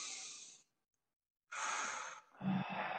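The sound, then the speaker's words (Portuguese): Airy breathing: a short breath, a second of silence, then a long, deep inhale that rolls straight into a breathy exhale with a faint voiced edge. No talking. “Agora eu quero que você puxe uma respiração bem fundo.”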